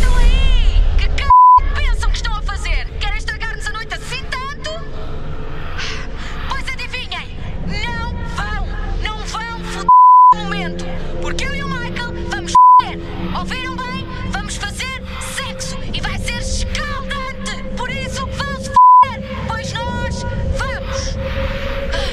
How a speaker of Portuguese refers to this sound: Bem, acho que vamos à falência com tanto bip, bip, bip. Enfim, serviço público para os mais novos e educativo para os mais velhos.